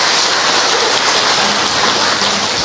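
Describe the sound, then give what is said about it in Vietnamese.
An audience gives another round of applause to thank God, a loud, dense wash of many hands clapping that holds steady for a few seconds with no voices over it. “Chúng ta cho một tràng pháo tay nữa để tạ ơn Chúa.”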